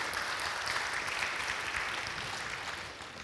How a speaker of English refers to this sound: Will you just give them a round of applause for their willingness this morning?